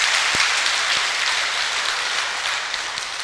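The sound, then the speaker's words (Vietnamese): A steady wash of audience applause answering a speaker's call for a round of applause, many hands clapping densely and evenly for a few seconds, moderately loud, with no voices over it. “Nếu quý vị thấy rằng là việc đó nó cần phải xảy ra với nông thôn Việt Nam thì hãy cho một tràng pháo tay để nỗ lực đạt được rồi.”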